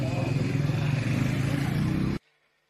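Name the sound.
car engine running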